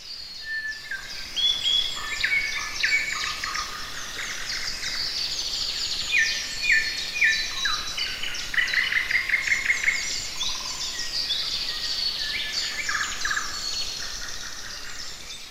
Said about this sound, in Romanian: Și am ajuns în pădurea Letea, unde sunt trilurile de păsări de pădure.